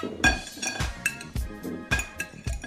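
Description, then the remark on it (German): Five small pre-cut lime pieces dropping one after another into a glass while making a mojito, about six soft thuds, each with a light glassy clink, with no talking. “Die haben wir auch mal ins Glas.”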